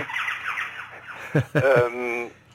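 Two pet birds squawk and screech in a series of sharp, harmonic calls, loud, over a steady low background hum with no clear talking.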